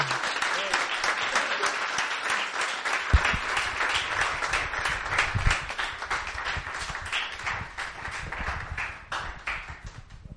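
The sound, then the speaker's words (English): A church audience claps steadily and loudly for about ten seconds after a prayer, giving the Lord a cheer, a dense patter of many hands, with scattered cheers and voices rising through the applause. “Give the Lord a cheer, everybody.”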